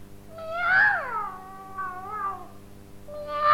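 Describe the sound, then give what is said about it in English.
A cat meows three times in close succession, each call a drawn-out, wavering yowl, the last one cut short. The meows are fairly loud, with no talking. “Then he said that it was his wildcat.”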